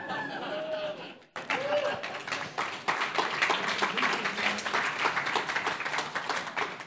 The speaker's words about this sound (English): Nice soft round of applause.